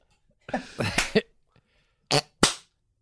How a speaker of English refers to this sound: Sorry, did I clap late?